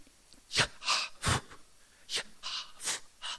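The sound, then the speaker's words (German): A voice makes a string of about seven short, breathy exhalations and whispered puffs, unevenly spaced, trying to pronounce the Tetragrammaton, the name of God, using only breath. No ordinary speech. “Da der Versuch, das Tetragramm doch auszusprechen, wie Atmen klänge.”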